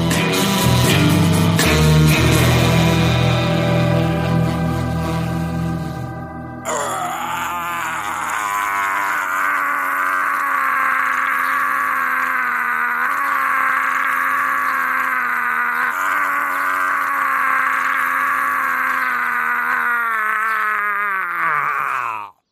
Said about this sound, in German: Ein markerschütternder Schrei schallte über den ganzen Friedhof.